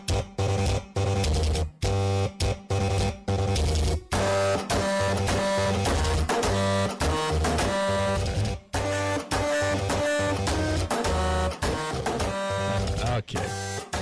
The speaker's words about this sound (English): Toasters, toothbrushes, and a printer? And a typewriter or something? A typewriter.